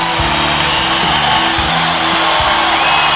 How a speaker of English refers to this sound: The crowd goes wild. I love when they do that.